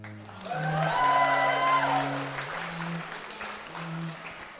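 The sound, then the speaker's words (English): A crowd claps and applauds steadily for a few seconds at Hogwarts School of Witchcraft and Wizardry at the start of a new school year, a dense crackle of hands over low sustained musical tones that hold and shift beneath it. “Applaud.”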